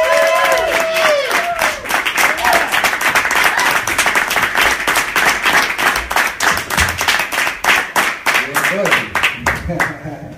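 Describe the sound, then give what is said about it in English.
A loud stand-up comedy crowd applauds after Ian Ellis's set with dense, steady clapping, whoops and cheers rising over it early on, the clapping thinning into a rhythmic beat toward the end. “I want you to get your hands going right now. I want you to get it loud, and I want you to stay loud.”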